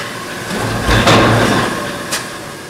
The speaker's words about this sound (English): This huge stamping press takes discs cut from rolls of flat steel and forms them into frisbee-like shapes, then cylinders, and finally finished brake drums. They'll make these parts today.